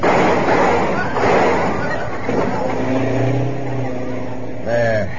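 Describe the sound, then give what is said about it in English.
A car engine roars loudly, revving and accelerating with a rising, strained pitch over a wash of road noise as it drives through a police roadblock barrier across a highway. A brief higher wail cuts in at the very end. “The police have a barrier across the highway. They will drive right through it.”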